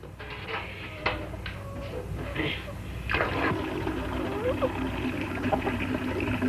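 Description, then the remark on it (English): Water pours and splashes into a bathtub in a steady, rushing stream as the tub is filled, with a few clunks and sloshes rising over the constant flow. “Fill up the tub and I'll get the wash.”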